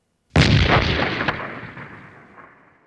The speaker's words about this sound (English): A very brief sound like an explosion might go right up to the max.